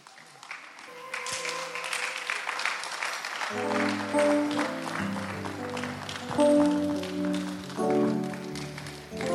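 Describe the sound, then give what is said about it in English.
An audience claps together in a steady rhythmic burst; after a few seconds, sustained keyboard or organ chords join in beneath the lively, loud applause. “I hope you are blessed, though, the way you are clapping.”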